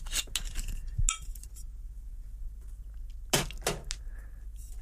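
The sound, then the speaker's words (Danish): Rum being poured, with a few sharp clinks of glass and bottle and short splashy bursts, otherwise quiet with no one talking. “Og så starter jeg jo med at hælde. Hælde den her rom i.”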